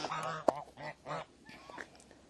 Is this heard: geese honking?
yes